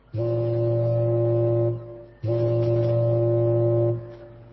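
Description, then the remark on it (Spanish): The horn of the German battleship Graf Spee at Montevideo blasts twice, each long sustained tone lasting about a second and a half with a brief gap between, loud and resonant with rich harmonics and no voices. “Hace 70 años que sonó esa bocina, la del acorazado alemán Graf Spee.”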